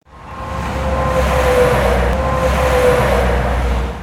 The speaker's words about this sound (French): Vous vous souvenez du bruit assourdissant de l'autoroute en 2020, il y a bientôt 10 ans ?